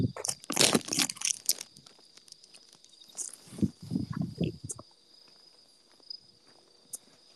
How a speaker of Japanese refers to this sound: 今ポテト食ってる。